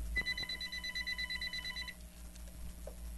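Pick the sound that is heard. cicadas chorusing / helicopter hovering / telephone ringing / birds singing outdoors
telephone ringing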